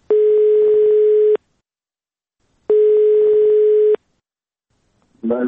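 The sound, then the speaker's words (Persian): Two long, steady telephone tones from an outgoing call placed by Radio Azadi to a person searching for a missing loved one, each lasting over a second with a silent gap between, loud, before a voice briefly starts speaking at the end. “بنابراین ما هم کوشش کردیم که از طرف خود به کسانی که در جستجوی گمشده خود هستند تلفن کنیم و با ایشان صحبت بکنیم و صحبتشان را ثبت و نشر نماییم.”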